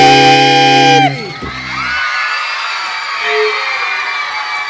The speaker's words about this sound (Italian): allora dagli urli penso che vi siano piaciuti gli alti e bassi